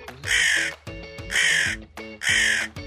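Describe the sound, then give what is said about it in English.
A crow gives three loud, harsh caws in steady succession, each raspy call lasting under a second with short pauses between, with no other voices. “Ravens and crows, which both like to feed on dead animals, are a bad luck sign.”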